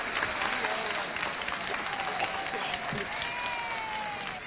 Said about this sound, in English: So if you would give a round of applause to Cecil Youngblood.